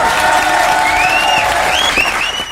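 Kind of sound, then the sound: crowd, audience applauding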